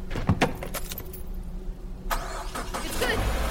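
Keys jingle briefly, then a car engine cranks and catches, settling into a steady low rumble that grows slightly louder as it idles. No one speaks.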